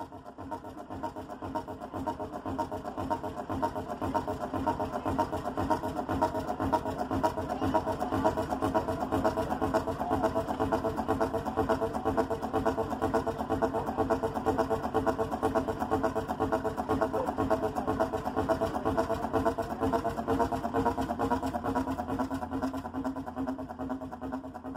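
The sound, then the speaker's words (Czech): A heavy, slow-running hot-bulb semi-diesel ship engine drones steadily for the whole stretch, its deep pulsing exhaust, led out through a long pipe, thumping in a low, resonant rhythm with no voices over it. “Mohutný výfuk takového lodního motoru zněl jako australský hudební nástroj didgeridoo.”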